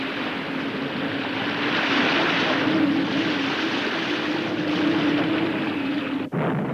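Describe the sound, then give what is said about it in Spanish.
Dense, steady roar of rough sea surf fills the whole stretch, loud and continuous with a low droning hum underneath, briefly dipping near the end; no voices. “No parece que se presente buen tiempo, hermano Francisco. En estos meses el mar está siempre un poco rebelde”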